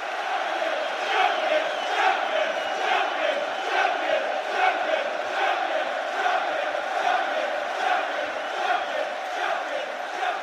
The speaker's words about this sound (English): just the noise of the stadium can come to the fore.